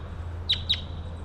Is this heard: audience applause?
no